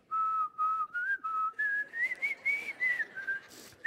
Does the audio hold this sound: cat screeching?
no